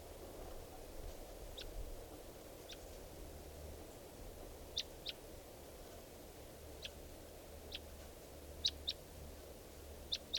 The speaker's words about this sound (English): Recording at 3:10 p.m. and there's a wild bird here. And I think it could be the male who I missed before, the mate of this female.